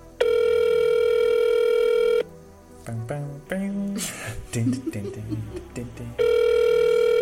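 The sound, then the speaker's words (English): A steady, buzzy ringback tone sounds over a phone line for about two seconds, gives way to muffled voices and clatter, then the same loud ring tone returns. “The rings continue.”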